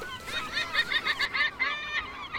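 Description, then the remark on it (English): A gull calls in a rapid series of loud, harsh squawking cries, fairly steady, with no voices in the background. “He's a noisy one. Could be a she. A she-gull.”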